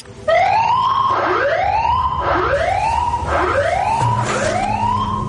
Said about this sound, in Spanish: que sería una sirena de batalla de la Segunda Guerra Mundial.